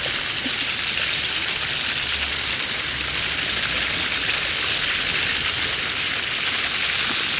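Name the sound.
water splashing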